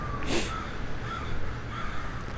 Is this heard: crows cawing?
yes